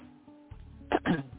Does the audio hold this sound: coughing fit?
yes